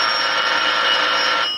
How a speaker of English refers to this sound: The telephone is ringing. Let it ring. One of your friends may be in need of you. You must answer.